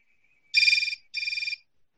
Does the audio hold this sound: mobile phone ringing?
yes